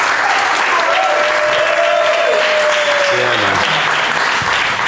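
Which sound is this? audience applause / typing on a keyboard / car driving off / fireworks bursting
audience applause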